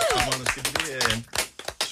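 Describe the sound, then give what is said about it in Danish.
Audience clapping after a live song performance on a Tuesday morning crackles in short, uneven bursts beneath a person talking over it, the applause fairly loud and broken up rather than a steady roar. “Lige endnu en stor klap.”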